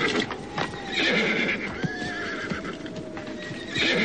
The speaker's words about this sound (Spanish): Algo discutieron entre ellos, mientras los animales relinchaban con coraje.